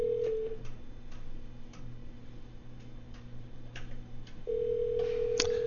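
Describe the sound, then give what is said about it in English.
A phone line rings on a call placed to get a caller back on the line: a short burst of ringback tone at the start, a quiet gap with faint regular ticking, then the steady ring tone returns near the end. No talking. “And the phone is ringing, and we will see if we have him back on the line here momentarily.”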